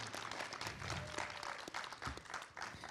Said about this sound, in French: Et à ma droite, des applaudissements pour tout le monde,